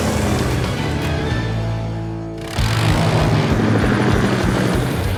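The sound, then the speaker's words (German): A helicopter parked on a rooftop: its engine whines and drones steadily, its pitch shifting, then the rotor noise surges louder and churns on without pause. No one speaks. “Sky stürmte zu ihrem Hubschrauber, der auf dem Dach parkte.”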